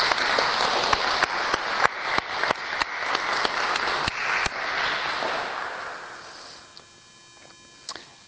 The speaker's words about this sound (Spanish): Tener Padre Antolini, que en 3 semanas va a cumplir 60 años de sacerdote. Un aplauso para Padre Antolini.